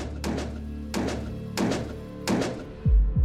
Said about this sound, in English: The Meridian Park apartments sit quiet under rows of street lamps, the kind of calm that makes every sound feel louder than it should. But then, around 10 p.m., gunfire.